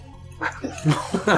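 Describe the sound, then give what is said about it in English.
A voice imitates bubbles gurgling up through water: a few quick, throaty blub-like bursts at moderate loudness, with no words spoken. “The bubbles that gurgle up from the water tell you all you need to know.”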